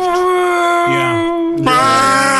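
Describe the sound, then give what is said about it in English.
A person vocally imitates a 1960s diesel electric train horn, holding a loud, buzzy tone that drops lower partway through, then rises into a second strong blast. “She's spending like hours perfecting this 1960s diesel electric.”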